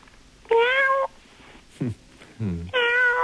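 A cat meows repeatedly at close range, two drawn-out high meows framing a couple of shorter, lower, downward-sliding calls, with brief quiet gaps between them and no talking.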